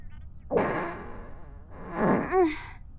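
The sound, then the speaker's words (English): Two fart sounds close together: a long, raspy, sputtering one followed by a shorter one that rises into a squeaky, tonal finish. Both are loud, with no talking. “It's just a couple of farts.”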